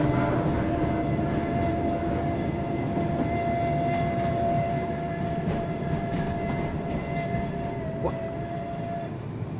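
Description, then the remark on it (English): A train rumbles steadily through a tunnel, its dense low roar carrying a faint sustained whine and occasional sharp metallic clicks from the wheels, with no voices present. “suddenly realizes that he's no longer riding a streetcar. He's on a train.”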